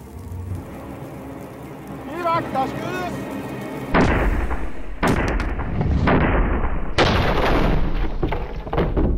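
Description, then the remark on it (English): After a few quiet seconds, a medieval breech-loading cannon loaded with gunpowder fires with a sudden, loud boom. A long roaring rumble follows, broken by several more crashing bursts of noise. “But how much damage could these medieval cannons really deliver?”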